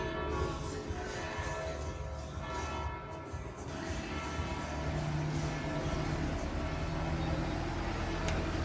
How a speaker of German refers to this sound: Übrigens das Brummen, was jetzt gerade das Glockengeläute übertüncht, das ist so ein weißer Touri-Zug, der immer durch die Stadt fährt. Ich weiß gar nicht, ob es Elektro ist, also jedenfalls hat er 2 Waggons hinten dran,